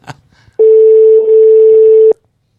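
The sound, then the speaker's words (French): A brief click, then a single loud, steady telephone ringing tone holds for about a second and a half before cutting off into silence, as a call is placed to the reservations line of the Théâtre du Gymnase. No one speaks. “Bon, et on va quand même retenter le téléphone des réservations.”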